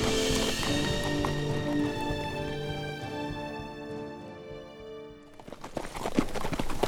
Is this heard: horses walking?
yes